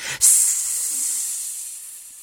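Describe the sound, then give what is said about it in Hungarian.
A baby water snake hisses: a brief soft thump, then one long, bright, airy hiss that starts loud and slowly tapers over about two seconds, with no voices. “A meglepetéstől magához sem térhetett a társaság, már is a tűző napon kelletlenül tekerőző parányi vízisikló sorsán kellett gondolkozni, mert az Kokó Samuelé csúszott, s vékonyka hangján követelőzni kezdett.”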